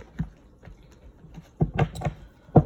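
Quiet shuffling of a deck of cards during a card reading: irregular soft flicks and taps, sparse at first, then a denser cluster of crisp snaps near the end, with no one speaking.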